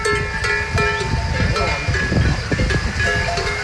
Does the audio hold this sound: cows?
yes